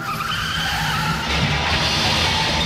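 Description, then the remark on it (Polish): A car skids loudly with a long, harsh tire screech, then the noise turns rougher and broader midway as it ends in a car accident. No one speaks. “Tak, chyba nic mi nie jest, ale mój biedny samochód. Wypadki zdarzają się najlepszym.”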